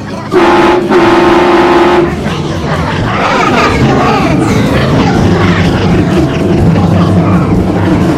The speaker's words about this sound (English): Oh, there's a train horn.